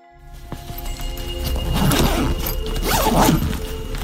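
Close, busy rustling of bags being packed, with quick zipping sounds rising twice over a steady low rumble. No one speaks.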